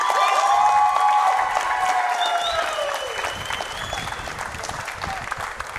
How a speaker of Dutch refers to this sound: Gefeliciteerd en geef jezelf wel eens een hartelijk applaus.